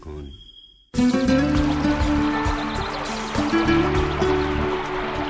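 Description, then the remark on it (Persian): After a brief near-silent moment, water suddenly starts flowing like a stream, a steady, fairly loud rush and gurgle that continues without pause, with a faint tonal hum underneath. “صدای پای آب.”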